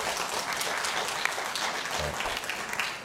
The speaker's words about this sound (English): Please don't applaud. We have a lot of speakers. We're trying to be respectful of everyone. Yeah, this solid 3.3 seconds worth of applause is killing the decorum for the night, Commissioner Barry.